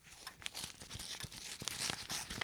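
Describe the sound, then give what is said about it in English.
Paper tearing and crinkling, like a card and present being unwrapped, in a steady run of rough, rustling bursts with sharper rips throughout, no voices. “Is that a card and present you have there?”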